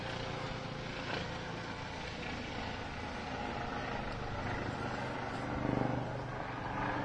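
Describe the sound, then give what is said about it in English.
A helicopter drones steadily overhead, a continuous low rumbling roar with a faint throb that holds for several seconds and swells slightly toward the end, with no one speaking. “Everyone wave to the helicopter because I can't continue talking until the sound's done.”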